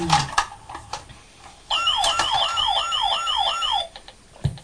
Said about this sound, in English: It's a white fire engine. It's a white fire engine. It's not. It's an ambulance.